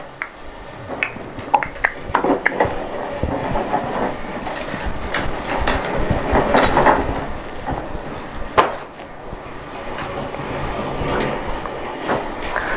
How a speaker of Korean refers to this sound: 덜컹덜컹 소리도 나네, 수레에서.